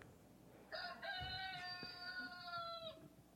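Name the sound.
rooster crowing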